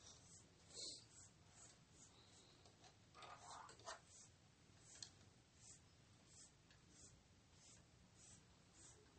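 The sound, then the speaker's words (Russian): A marker squeaks and scratches across a surface in a series of short, irregular strokes as someone draws a picture, fairly quiet, over a low steady background hum. “Вот так рисуем.”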